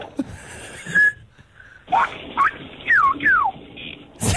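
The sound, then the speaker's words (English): A person whistles an imitation of a rainforest bird's call: a short steady note, then four quick sliding whistles that swoop up and down in pitch, fairly loud, with no talking, ending in a brief burst of noise. “That's just a whistle, but anyway. No, that's a bird that lives in the rainforest, is it?”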